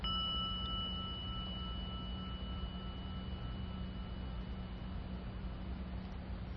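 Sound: gong ringing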